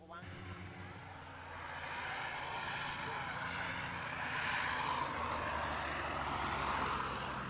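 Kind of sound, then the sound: vehicle, propeller plane flying overhead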